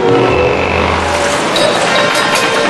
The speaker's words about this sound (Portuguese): A porta de entrada do país é a frenética capital Colombo. Carros e tuk-tuks disputam o espaço. O trânsito é de enlouquecer.